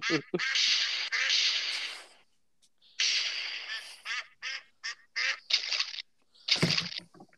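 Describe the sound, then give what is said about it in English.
Ducks flying overhead quack loudly, first in a long raucous burst, then after a brief pause in a quick series of short, choppy calls. “Some of these ducks flying overhead?”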